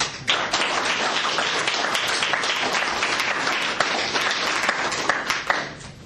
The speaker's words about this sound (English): All right, that's the end of our first round. Give all the poets a round of claps and applause. Whistle, be exuberant, all that fun stuff.